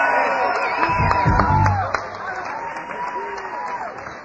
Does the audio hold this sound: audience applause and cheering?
yes